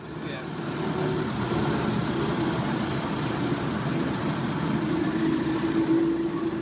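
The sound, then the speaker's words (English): A passenger truck's engine drones steadily as the vehicle drives up a rocky road into the abandoned Marcopper mine site on Marinduque, a continuous low rumble with rattling over rough ground that holds at an even loudness throughout. “It took some convincing and a generous fare to persuade a passenger truck driver to take me into the site.”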